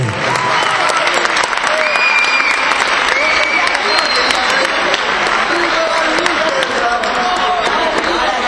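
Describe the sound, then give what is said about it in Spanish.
Sustained audience applause for player Lauri Verdú García, number 11, as a team's players are introduced by shirt number, a dense steady wash of many hands clapping at an even loudness for several seconds, with faint crowd murmur mixed in. “Venga, ese aplauso también para Lauri Verdú García, con el 11.”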